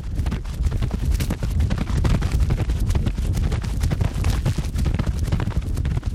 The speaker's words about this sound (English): And I put 4 wireless microphones on each hoof. We wanted to control the speed of the horse, so we had the trainer run the horse in a circle with a rope.